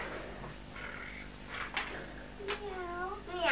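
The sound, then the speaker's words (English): A child's high, wavering voice imitates a cat's meow, one drawn-out mew rising and falling near the end, after some quieter vocal sounds. “Can you pretend to be a pussycat?”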